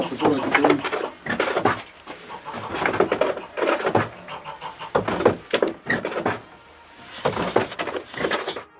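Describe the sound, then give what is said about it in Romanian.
A wool-teasing machine built entirely of wood, worked by at least two people to tease wool before carding, clatters and creaks in a steady, repeated rhythm of knocks and scraping strokes, with faint voices mixed in. “O altă mașinărie confecționată doar din lemn realiza scărmânarea.”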